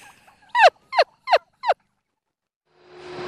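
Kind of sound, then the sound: bird, heritage turkeys gobbling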